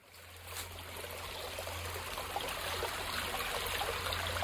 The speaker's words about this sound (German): Die Föritz im Grenzgebiet zwischen Thüringen und Bayern. Gemächlich fließt das Wasser durch ein schattiges Tal, gesäumt von alten Erlen und Weiden.